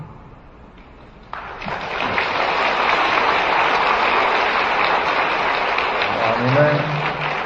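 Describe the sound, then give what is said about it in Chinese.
Audience applause at a talk breaks out suddenly and holds as a steady, dense wash of clapping from a large crowd, with a voice briefly speaking underneath near the end. “你们一鼓掌，台长想起来了。”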